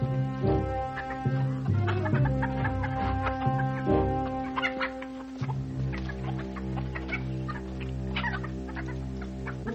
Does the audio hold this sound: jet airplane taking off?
no